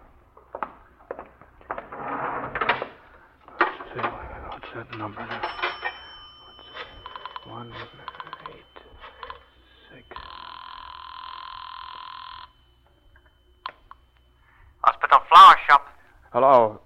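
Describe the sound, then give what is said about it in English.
A telephone on a building floor, right in front of a room door, is dialed with a run of clicks and rattles, then a steady ringing tone sounds for a couple of seconds before a voice briefly answers. “I'd have to make another phone call. Well, there's a phone on this floor right in front of Murdoch's door.”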